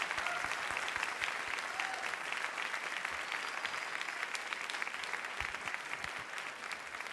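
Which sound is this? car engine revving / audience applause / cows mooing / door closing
audience applause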